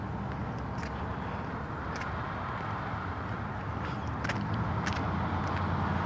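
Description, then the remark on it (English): Steady street traffic rumbles throughout at a street corner, a dense low roar of cars moving with a few brief sharper hisses and clicks on top, no clear pauses between vehicles. “Oh, this is tedious. Cars everywhere at this corner.”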